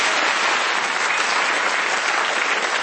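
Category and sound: crowd, audience round of applause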